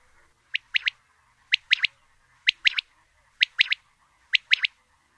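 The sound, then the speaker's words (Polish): A bird repeats its soft three-syllable territorial call five times at a steady pace, each phrase a single bright note, a short pause, then two quick notes, stressed on the first and last syllables. It is clear, with no other sounds. “Składa się on z trzech sylab z akcentem na pierwszej i ostatniej sylabie oraz niewielkim odstępem między pierwszą a drugą sylabą.”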